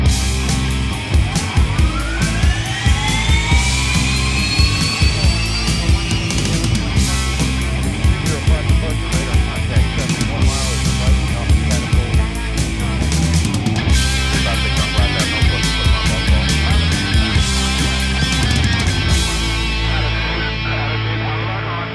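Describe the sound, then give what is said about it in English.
A loud, dense introductory song with rising, siren-like sweeping tones early on, overlaid with bursts of crackly radio communications chatter, playing steadily for about twenty seconds before the top end drops away. “and if that introductory song and communications bumper sounded familiar,”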